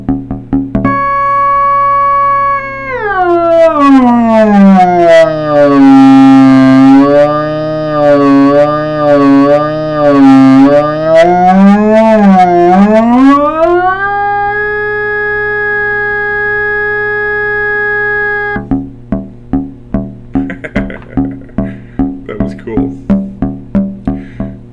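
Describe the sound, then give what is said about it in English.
As the capacitor is pulled out of the 555 timer creating the source clock, a buzzy, harmonic-rich 555 timer synth tone swoops down in pitch, warbles unsteadily, climbs back up and holds, then breaks into a rapid train of rhythmic clicking pulses. “When I pull out the capacitor on the 555 timer that's creating the source clock.”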